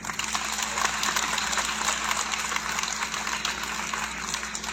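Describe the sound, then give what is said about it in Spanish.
Sustained applause from a crowd for the state governor, Miguel Barbosa Huerta: a dense, steady wash of clapping that holds at an even loudness for several seconds with no voices breaking through. “y agradezco infinitamente y le envío un saludo por todos estos medios digitales que hoy contamos a nuestro gobernador del estado, al licenciado Miguel Barbosa Huerta, para quien pido también un fuerte aplauso.”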